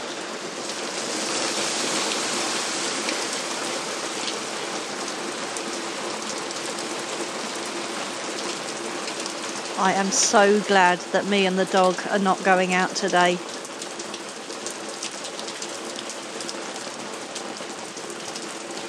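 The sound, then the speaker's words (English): Heavy rain drums steadily and densely on a plastic see-through porch roof overhead on a back porch in London in spring, wind blowing rain underneath it; a constant hiss and patter throughout, with a person speaking briefly midway over the downpour. “And you can hear how heavy it is. It's a plastic see-through top for the porch.”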